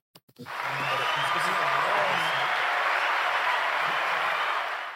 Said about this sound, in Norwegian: Wow, applaus igjen.